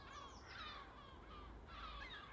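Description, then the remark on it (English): Seagulls squawk in two harsh, raspy bursts, one near the start and another toward the end, over a steady low outdoor rumble with no talking. “have you come out to see what all the stramash is about?”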